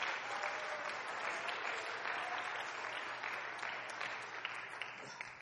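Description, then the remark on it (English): A church audience claps hands unto the Lord in sustained, dense applause that stays steady and fairly loud throughout, many overlapping claps blending into a continuous wash with no voices standing out. “Clap your hands unto the Lord right now if you believe it.”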